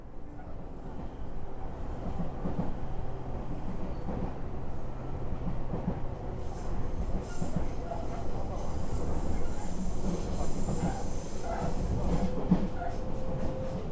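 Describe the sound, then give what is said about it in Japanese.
A Seibu Ikebukuro Line train pulls out after a transfer at Ikebukuro in Tokyo and rolls along the tracks with a steady low rumble and faint rhythmic clatter, heard from a seat inside the carriage; the noise builds slightly as it picks up speed, with faint background murmuring. “混雑する池袋駅の中を歩く頃には、すっかり東京時代に身につけた距離感や時間や方向の感覚を取り戻し始めていたから、なんとなくという勘だけで西武池袋線の乗り継ぎを終え、気がつけば滑り出した電車のシートに腰を下ろしていた。”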